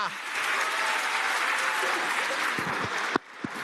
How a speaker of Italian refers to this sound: Non si può non partire con un grande super applauso